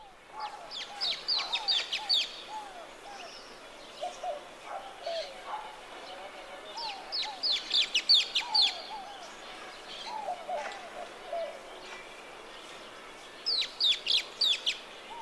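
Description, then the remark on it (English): Repeated bursts of sharp, high shrieking calls from a social flycatcher, coming in rapid clusters every couple of seconds, with softer lower chattering notes mixed in between. “Here are the shrieks of the social flycatcher.”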